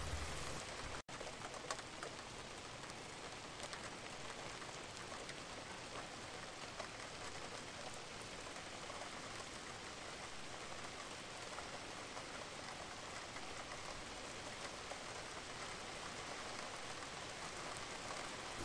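Steady pattering rain falls continuously, a dense even hiss of drops with no pauses, while a bird faintly coos in the background.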